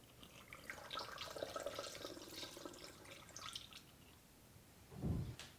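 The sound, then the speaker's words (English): Liquid trickles and gurgles steadily for a few seconds as a mat-cleaning mixture is poured through a funnel into a small spray bottle, ending with a brief low thump. “Okay, so now I've got this little spray bottle ready, and I've also got a funnel, so we can pour this in here.”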